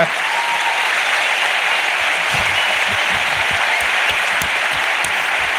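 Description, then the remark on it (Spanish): A crowd bursts into sustained applause for the show La Ruina, loud and steady from start to finish, with dense overlapping claps and no voices standing out. “¡Aplauso para La Ruina de Nacho García!”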